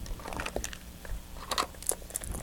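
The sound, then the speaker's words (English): Soft, wet gnawing and crinkling of a baby chewing on a book, quiet, with irregular little clicks and squishes and no talking. “Don't chew on the books. When you chew on the books, they get all wet.”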